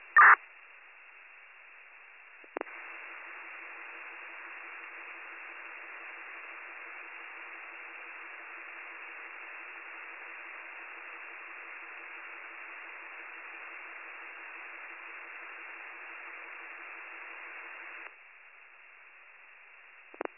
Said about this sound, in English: County from BLS 4153. Did you copy that we were responding? The only response we got back was static.